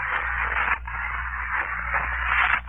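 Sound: footsteps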